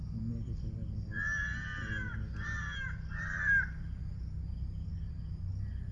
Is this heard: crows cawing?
yes